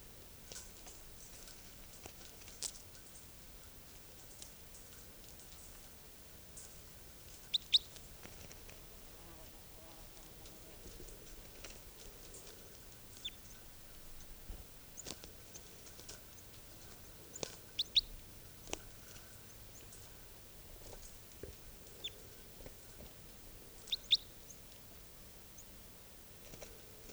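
Faint, brief high-pitched bird chirps come in scattered bursts over a quiet, hissy background, mixed with occasional soft clicks and patter, as a wild type 2 bird has just been caught.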